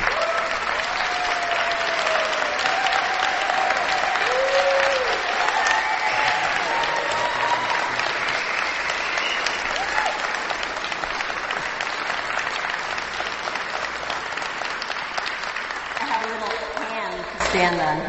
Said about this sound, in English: And so with that, I want to pass it off to Medea Benjamin. So everyone, let's give a big round of applause. Medea, come on up.